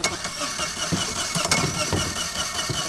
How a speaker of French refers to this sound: Alors, c'est le premier jour de sortie en pêche sur le Rhône. Le moteur est encore un peu froid parce qu'il n'a pas servi ces derniers mois.